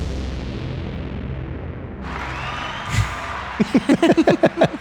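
crowd, applause

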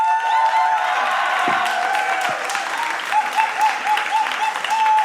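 crowd, audience thunderous applause

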